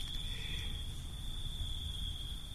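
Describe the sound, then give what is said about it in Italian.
A steady, thin high-pitched trill of crickets runs unbroken through a brief moment of silence during a church celebration, soft and continuous over a low background hum, with no voices. “In questo breve istante di silenzio, anche noi, come le Clarisse che andavano per strada, sentiamo i grilli.”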